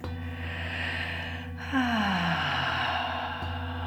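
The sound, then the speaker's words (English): A slow, deep breath is drawn in, then released in a long, audible sigh that drops in pitch. It's fairly soft, with no talking. “Taking a deep, delicious breath, breathing in as much as you can take in. And breathing out as much as you can let go of.”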